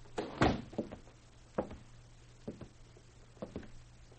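Men close a door with a solid thump, followed by a few lighter clunks and clicks spaced over the next few seconds, over a faint steady low hum.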